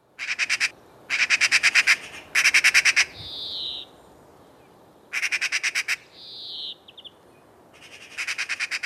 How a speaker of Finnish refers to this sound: Ja nyt on viikon luontoäänen aika. Se on harakka